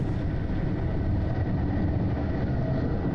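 A steady, heavy rumble of a train in motion, heard from inside the train, continuous and loud throughout with no voices.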